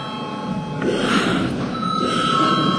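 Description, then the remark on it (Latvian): A loud, continuous electric parliament voting bell rings throughout, called before a vote on a national security concept, a steady metallic buzzing tone without pause and with no talking over it. “Par nav, vai lēmums jāpieņem ir balsojot, lūdzu zvanu.”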